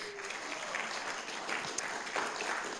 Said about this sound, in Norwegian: I år så er det Bibelskolen i Trondheim som har hatt ansvar for denne standen, så vi kan jo gi dem en applaus da.